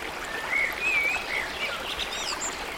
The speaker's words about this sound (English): You hear the sounds of the birds. Oh, those birds just sound so great when they wake you up in the morning. And you're hearing the water running. This is just great.